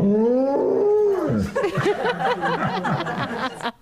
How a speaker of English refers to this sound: Hearing a golden retriever mooing